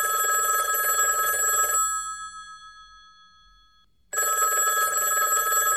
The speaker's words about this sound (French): C'est donc le moment où je vais prendre mon téléphone et où je vais appeler … pour lui poser quelques questions du questionnaire. Je le rappelle, que faisait Bernard Pivot dans Bouillon de Culture. On fait sonner le téléphone chez ….